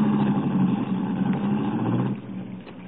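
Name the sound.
car engine running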